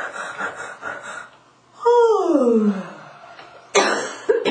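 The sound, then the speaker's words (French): A loud, deliberate, drawn-out vocal yawn whose voice slides steadily downward in pitch, preceded by soft breathy sounds and followed by a sharp, noisy exhale. “Mais si les yeux ont envie de couler un peu par ces bâillements actifs, c'est bon, ça libère, c'est ça.”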